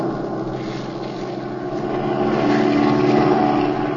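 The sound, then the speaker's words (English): A steady, droning propeller engine hums continuously as the plane flies to overtake another plane, its low rumble swelling slightly louder midway and holding strong, with no voices over it. “Oh, pilot, overtake that plane if you can.”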